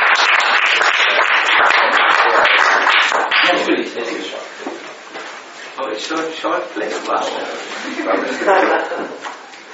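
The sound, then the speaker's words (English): Loud, dense audience applause fills the first few seconds, then thins out and fades while voices murmur and talk underneath the remaining scattered clapping. “Let us give a full applause to, who is it?”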